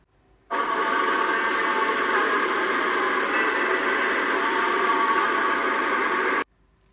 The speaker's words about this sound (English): It's a steam engine, said Wilf. The train puffed out smoke and it made a clanking noise. As it stopped, it gave a loud hiss.